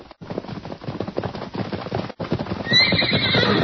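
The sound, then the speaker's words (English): A horse named Silver gallops, its hooves drumming in a fast, steady rhythm, then lets out a loud, shrill whinny over the hoofbeats near the end. No one speaks. “Look at that horse run.”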